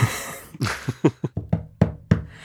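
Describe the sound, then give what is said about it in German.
A quick series of about nine sharp knocks on a hard surface, given as knock signals, fairly loud, tapped in an uneven rhythm with brief gaps, and no voices. “oder möchtest du dein Fazit abgeben, am besten in Klopfzeichen?”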